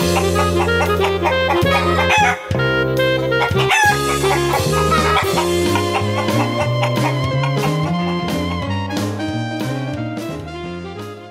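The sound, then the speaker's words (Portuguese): Chicken clucking and rooster crowing run loud and continuous, layered into a dense, rhythmic, almost musical pattern that never pauses, with no one talking, introducing a segment called Galinha Viajante (Travelling Chicken). “Agora, mais uma aventura da Galinha Viajante.”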